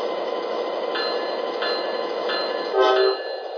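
The Amtrak Western Chief, train number 3, departs from track 1 at Union Station in Chicago, rumbling steadily with a continuous mechanical hum and rattling, a short tonal squeal or horn note rising briefly near the end. No one speaks.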